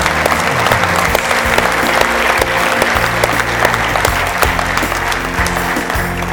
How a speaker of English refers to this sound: Let's give him a hand clap of praise today.